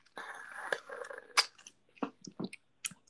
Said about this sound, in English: Okay, let me take a sip of my drink.